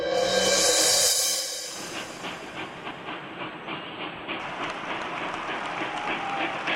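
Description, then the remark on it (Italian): A train travelling between Rome and Naples, Italy, in 1863 rolls along the rails with a steady, rhythmic clickety-clack, opening with a loud burst of steam hiss before settling into a continuous rumbling rattle. “1863, si viaggia in treno tra Roma e Napoli.”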